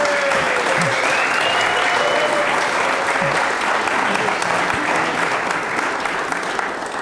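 A live audience at a Summer Acoustic Music Week show applauds steadily, dense clapping that stays loud and even throughout with no break, a faint murmur of voices mixed under the hands.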